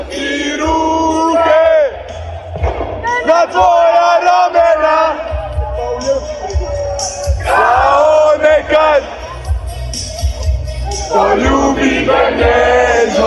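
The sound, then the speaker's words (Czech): A large crowd in Croatia sings together loudly, voices rising and falling in chanted melody, with shouts and cheers mixed in, celebrating into the early morning hours after a World Cup match of the Croatian national football team. “A pjeva se i diljem Lijepe naše. Do ranih se jutarnjih sati slavilo.”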